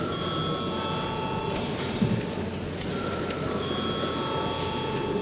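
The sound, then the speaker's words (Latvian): A continuous electric bell rings steadily throughout in the Latvian parliament (Saeima), calling deputies to vote, a bright sustained tone over faint background murmur and no clear speech. “Lūdzu zvanu.”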